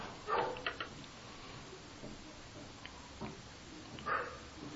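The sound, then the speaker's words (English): Dogs bark faintly, a short cluster of yips near the start and another pair near the end, separated by quiet background hiss with no one talking. “The dogs are barking again.”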